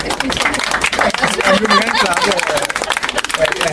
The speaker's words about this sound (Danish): Og så har vi det store privilegie, at ligestillingsministeren, tidligere også forsvarsminister, er forbi, Trine Bramsen fra Socialdemokratiet. Og så har vi Lars Kok, som er generalsekretær i Oxfam IBIS. Skal vi ikke lige give dem en hånd? Ja.